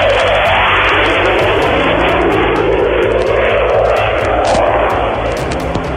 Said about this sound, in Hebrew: זה קולו של מטוס הפנטום, בו אי אפשר לדאוג. הפנטום שהוא, כמה שידוע לי לפחות, אימת הכוחות המצרים.